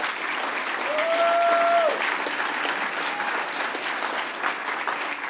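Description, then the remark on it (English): Dense, steady audience applause, given in advance as thanks for helping clean up the room, fills the whole stretch at an even level, with a brief high whistle-like tone rising out of the clapping near the start. “And I'm going to give you guys a round of applause in advance for that.”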